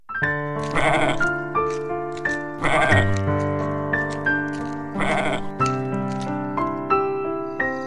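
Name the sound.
goats bleating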